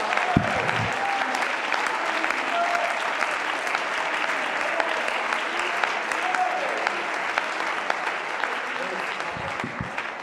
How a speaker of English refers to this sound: Oh, let's clap our hands and shout with our voice a praise.